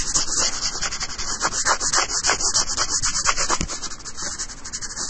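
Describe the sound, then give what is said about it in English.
Steady, scratchy rubbing of an eraser, similar to a pencil eraser, against a board, a continuous loud friction sound with quick back-and-forth strokes and no talking. “The eraser is pretty similar to one for pencils. I have to scratch a lot.”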